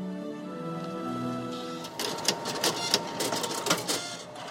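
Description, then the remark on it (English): A fax machine whirs with a steady, layered mechanical hum, then breaks into a busy, uneven chatter of clicks and buzzing bursts as it feeds the page. No one speaks. “And yet, the fax is not dead. It is super alive. It is sending billions of faxes.”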